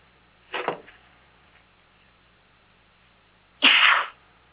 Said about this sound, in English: I have to sneeze again.